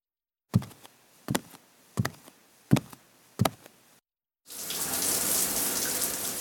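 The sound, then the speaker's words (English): Five sharp knocks sound in a steady rhythm, then after a brief pause a shower starts as someone takes a shower in their morning routine, its water spraying in a loud, continuous hiss that runs to the end. “I have a shower and I brush my teeth.”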